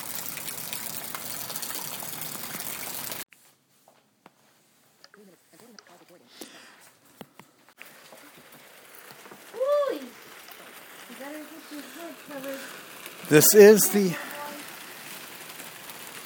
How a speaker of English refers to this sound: This is the outdoor rain on our patio. This is all the rain coming down. and I hear the rain hitting the patio here.